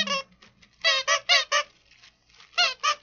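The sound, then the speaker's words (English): A squeaky donut-shaped Simpsons dog chew toy from Zippy Paws squeaks about seven times in quick, uneven bursts, each a loud, reedy, honk-like squeal with rich overtones, separated by short pauses and a quieter gap near the end. “Let's see if it squeaks. It does.”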